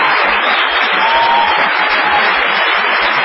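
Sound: audience ovation applause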